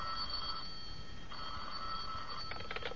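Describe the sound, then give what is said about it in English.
A telephone in an attorney's office rings in two steady bursts with a short pause between, followed by a rapid, rattling trill, heard fairly clearly over a constant background hiss with no one talking. “Oh, he's busy on the other phone, but I'll give him the message.”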